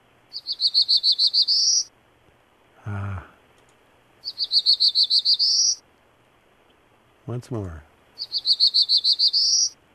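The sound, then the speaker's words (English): A Black-throated Green Warbler sings a high, buzzy, rising series of notes three times, each phrase lasting under two seconds, with brief spoken words between the songs. “it's different from Prairie Warbler because instead of being just one section of everything's all the same, it's two distinct sections, and that's how you can tell them apart very easily. Well, let's listen to the Black-Throated.”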